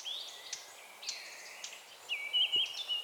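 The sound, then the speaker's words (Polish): An agitated Eurasian blackcap gives sharp, spaced alarm taps between clear, fluty whistled phrases, alone with no voices, the song brightening and growing louder toward the end. “Postukiwania, tyk, tyk, tyk, niczym takie małe kotły w filharmonii. To kapturka się niepokoi.”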